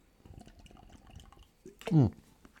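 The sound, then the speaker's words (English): A stretch of soft low rustling and clicks, then a person takes a single loud, brief, wet slurping sip of a drink, with a gurgling liquid sound that rises and falls in pitch. “again, time for a sip”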